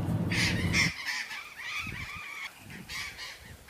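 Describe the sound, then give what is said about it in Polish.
A large flock of parrots perched in trees lining a long avenue in the Cafayate valley, northern Argentina, squawks and screeches in overlapping harsh bursts, many birds calling at once, with a low rumble of background noise early on. “Proszę Państwa, tak brzmią papugi, które tutaj bardzo licznie obsiadają drzewa w dolinie Cafayate.”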